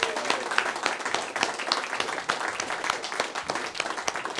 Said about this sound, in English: All right, that was awesome. How about one more round of applause for all these songs, huh? Pretty amazing.